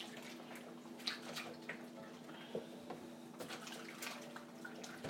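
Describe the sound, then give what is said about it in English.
Hot water pours steadily from a kettle, a continuous splashing trickle over a low background hum, with no one speaking. “I burnt my finger on the steam from the kettle.”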